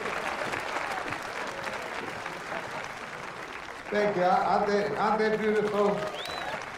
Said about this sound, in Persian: دعوت میکنم برای اهدای تاج به برنده امروز آقای لورل و آقای هاردی تشریف بیارن. تشویقشون کنید لطفا.